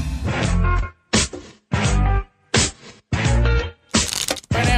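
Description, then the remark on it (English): Playing cards being shuffled for a game of blackjack: about six loud, crackly riffling bursts, each lasting around half a second, separated by brief pauses, with no one speaking. “Oh, look at you shuffling over there”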